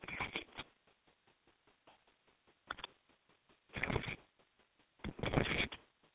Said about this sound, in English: You guys hear me typing? I'm typing it into the feed.